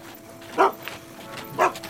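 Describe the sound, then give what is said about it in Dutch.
A small dog gives two sharp, high-pitched barks about a second apart, with a faint yip in between and a quiet background hum. “Want als je wilde knuffelen, dan nam je een hondje.”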